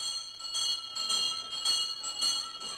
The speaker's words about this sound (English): Recognize that sound? It's the old-time school bell that called your great-grandmothers and great-grandfathers into the schoolroom 100 years ago. Noisy thing, wasn't it?